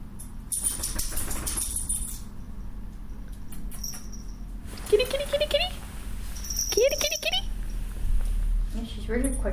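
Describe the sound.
A cat scratches at a scratching post in a few separate bursts of dry rasping and scraping, with brief pauses between, over low background murmur and faint voice-like sounds.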